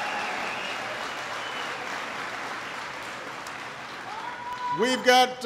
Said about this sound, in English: And an outstanding congressman from Ohio as well, Charlie Wilson. Give Charlie a big round of applause.